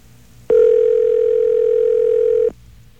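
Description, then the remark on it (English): A telephone line ringing after the number 611 is dialed: a single steady, mid-pitched electronic tone holds loud and unbroken for about two seconds, then cuts off, with only faint background hiss and no voices. “All right, well, 611 is ringing.”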